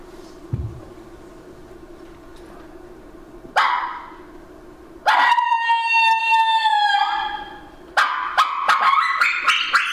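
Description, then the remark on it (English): A loud coyote-style howl made on a mouth call: a rising wail that holds a long wavering note, then breaks into a run of sharp yips and yelps, with no talking. “Hey, yeah, we want to hear you do the coyote howl. Okay. The mouth call.”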